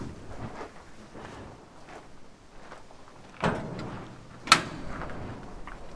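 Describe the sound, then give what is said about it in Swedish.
The bonnet of a well-kept, museum-inspected car with a three-cylinder, 993 cc, 50 hp engine is opened: a low rustle and a broad mechanical scrape build up, followed a second later by one sharp metallic clunk, with no talking. “Men ska vi kika lite under motorhuven?”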